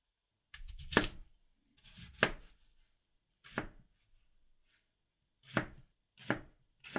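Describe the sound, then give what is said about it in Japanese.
A knife chops daikon radish on a cutting board for daikon miso soup in six sharp, separate thunks with uneven pauses between them, fairly loud, with no talking. “大根を切って、お鍋にお水を入れて、火にかけて、大根を中に投入っと。”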